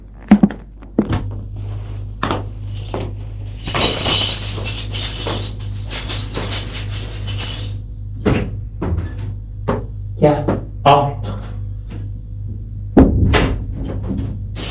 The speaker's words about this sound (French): Au premier étage, il va ouvrir la porte de son appartement, un effet.